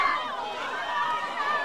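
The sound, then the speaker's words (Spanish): A crowd at a congested market screams together after sudden gunshots, many high-pitched voices overlapping into a continuous, wavering wall of panic that stays loud and steady throughout. “Gritos.”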